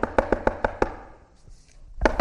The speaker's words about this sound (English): But you roll over in bed. Some of you would do this. Roll over in bed and pretend you didn't hear the knocking.